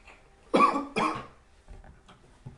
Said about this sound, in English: Uh-oh, there's the first cough. You've been struck with the first cough.